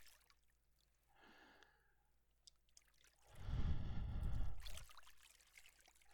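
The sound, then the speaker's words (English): Water trickles faintly, then surges into a louder gush for about a second and a half before dropping back to a soft trickle. No voices are heard. “Everything's all right. It's just water.”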